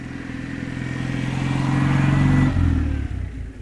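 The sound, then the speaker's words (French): A small Citroën 2CV car passes by, its buzzy, clattering low engine note swelling steadily, peaking around two and a half seconds, then dropping in pitch as it moves away. No one speaks. “On entend quand la deux chevaux passe.”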